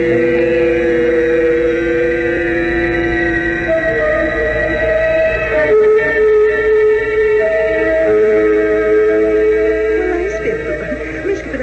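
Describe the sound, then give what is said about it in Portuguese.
A motor launch's engine drones steadily and loudly throughout, with a deep rumble and sustained tonal hum, as if heard from on board while the boat runs across the water. “Vamos depressa para não perdermos também a próxima lancha.”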